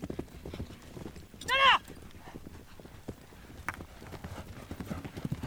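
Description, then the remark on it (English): Horse hooves clip-clop in a steady, irregular stream of thuds throughout as horses are ridden in a polo match, with a short high whinny near the start and faint voices in the background. “As a player, I'm on the horse trying to communicate where we need to be in order to pick up the play as it comes along.”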